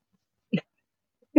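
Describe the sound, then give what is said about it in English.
A dog gives two short, sharp barks about a second apart, with silence between them; the second bark is cut off as the sound ends. “And then suddenly a dog.”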